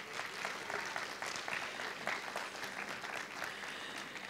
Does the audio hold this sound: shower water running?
no